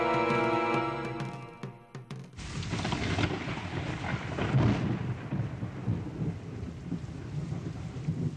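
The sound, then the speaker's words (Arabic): Steady heavy rain pours down with a deep, rolling rumble of thunder swelling through the middle, after a short opening of tonal music that cuts off abruptly. No one speaks. “هذا المطر هو بداية السنوات السبع من الوفرة والخصب.”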